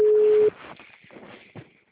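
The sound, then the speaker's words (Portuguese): A telephone line tone sounds once, a steady mid-pitched beep lasting about half a second, then drops into muffled, crackly phone-line noise with faint murmuring; the call goes unanswered. “Ela não atende telefone, mas eu mandei áudio.”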